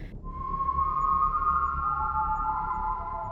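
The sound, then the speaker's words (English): A thin, eerie whistling tone echoes from deep within the shaft of an abandoned coal mine, holding steady, then sliding to a slightly different pitch and lingering, hollow and echoing over a low, constant rumble, with no voices. “And there is a faint, eerie whistling that echoes from deep within the shaft.”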